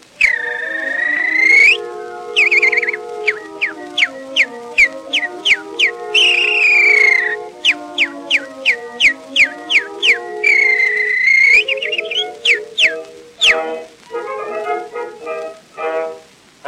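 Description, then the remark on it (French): Someone whistles quick, bright chirps in imitation of small birds, in rapid bursts with a few longer trilling notes, over a steady sustained musical accompaniment. No one speaks. “Et les mignons petits oiseaux, riant des obus et des balles, jetaient après chaque rafale leur cuit-cuit.”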